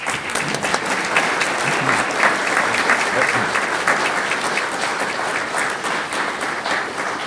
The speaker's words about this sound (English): Thank you. Thank you very much for those kind words. You haven't heard it yet, you know. It's a bit early for the applause, I think.